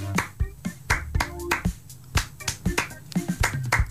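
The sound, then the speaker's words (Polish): Crisp hand claps on three, as done in capoeira, repeat in a steady, driving rhythm: a string of sharp, bright slaps at an even beat, with a faint low humming tone underneath. “Zaprezentuj, jak się klaszcze na trzech.”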